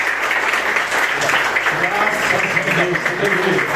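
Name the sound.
audience applauding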